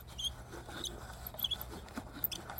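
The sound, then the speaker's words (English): A music box cranked slowly: soft ticking of small gears with short, high squeaks from the crank recurring every half second or so, all quiet and with no voices. “You can actually like really hear the little gears turning and the little like squeak from the crank.”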